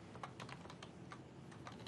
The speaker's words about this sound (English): And what command are you typing? Connect.msol service, which will connect me to the Office 365 service.